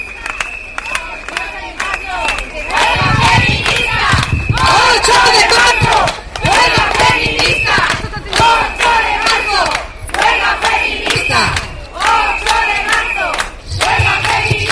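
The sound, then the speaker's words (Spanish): A large crowd chants loudly and continuously at a demonstration, rhythmic shouted bursts rising and falling, with whistles piercing through and scattered cheering in the dense, sustained roar of voices. It is a rally called by trade unions and other groups on International Women's Day, 8 March, during the feminist strike. “Es jueves 8 de marzo, es el Día de la Mujer, marcado hoy por la huelga feminista, los paros de 2 horas y las concentraciones y manifestaciones que han convocado los sindicatos y otros colectivos.”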